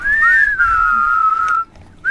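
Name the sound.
whistle being blown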